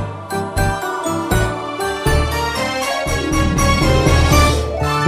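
Sleigh bells jingle steadily through a lively, loud musical passage with a bouncing bass line and bright chords, with no voices.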